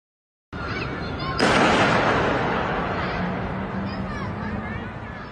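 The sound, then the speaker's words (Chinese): A single sharp gunshot cracks out loudly over a noisy background of outdoor crowd murmur, its echo ringing off buildings and slowly fading while the babble continues; recorded by residents of the residential compound where actor Yu Menglong fell. “日前更有网友抄出疑似于朦胧堕楼小区居民拍摄的影片，录到现场混杂的声音，有枪击，很清晰的枪声，疑似目击者被枪击。”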